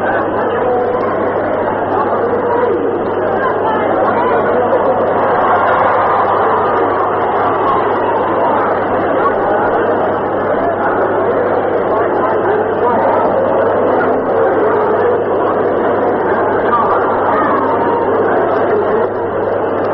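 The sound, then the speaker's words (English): A baseball crowd in the stands at a White Sox doubleheader cheers, a dense, steady roar of many voices that holds without pause for the whole twenty seconds, with a low constant hum running underneath. “there's considerable cheering going along with it. Maybe I'll turn this mic and let you try to pick it up.”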